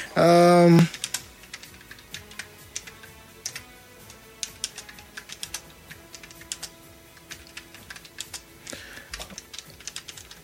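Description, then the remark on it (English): A person types on a computer keyboard: steady, irregular clicks for several seconds, quick bursts of keystrokes with short pauses, preceded by a brief loud tone at the very start. “Okay, all right, you can hear me clicking, right?”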